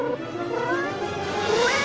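A cat lets out a long, drawn-out meow that wavers and rises in pitch toward the end, fairly loud, with no talking over it.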